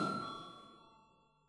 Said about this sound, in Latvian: Lūdzu zvanu.